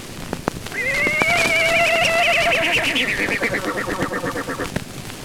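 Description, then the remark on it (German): A voice imitates a horse's whinny on an old Deutsche Grammophon Aktiengesellschaft recording: a long, high, wavering cry that breaks into a rapid, fluttering series of pulses before fading, over crackly old-record surface noise with a few sharp clicks. “Imitation eines Pferdes.”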